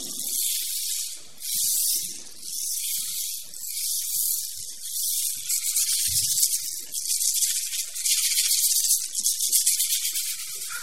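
Rain from a mighty storm patters steadily on a tree with green leaves, a dense, bright hiss that swells and eases in waves, with a few soft, low thuds scattered underneath. No voices.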